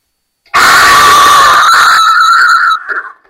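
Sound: crowd shouting and screaming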